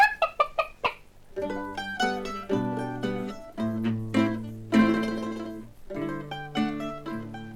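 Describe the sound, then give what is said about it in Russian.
A hen clucks in a quick run of short, sharp notes, then breaks into longer, drawn-out cackling calls over a steady low hum, loud, with no one speaking. “Давай, курочка, свой камень.”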